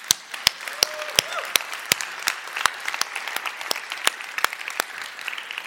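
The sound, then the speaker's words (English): A church audience cheers for the Lord after the church announces its name change, applauding steadily for several seconds, a dense patter of many hands punctuated by sharper individual claps, with a brief cheer or whoop rising early on. “So let's cheer for the Lord, amen?”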